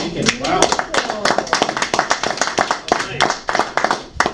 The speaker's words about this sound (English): We're not clapping because you're leaving,